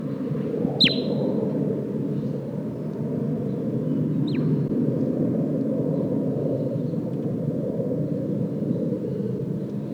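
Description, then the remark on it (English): Two brief, high bird flight calls from a bird responding with a flight call, each a quick descending note, the first clearer and the second fainter, sounding over a steady low rumble with no talking. “And 8, 5 responding with a flight call.”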